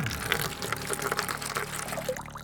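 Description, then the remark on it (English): Coal oil pours steadily, a continuous splashing glug that runs for a couple of seconds with slight gurgling variations, poured to flush a hiding boy out before a fire is lit, no voices present. “Let's see if a little coal oil will flush him out.”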